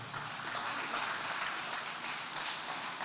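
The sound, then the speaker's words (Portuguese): A crowd applauds steadily for about three seconds, a dense, even wash of many hands clapping at once, with no talking over it. “Pode aplaudir então.”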